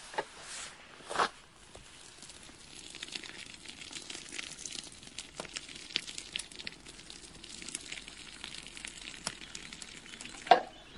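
Pasta water pours from a pot in a steady, hissing, splashing stream for several seconds, broken by occasional clinks and knocks, with a sharper clatter near the end.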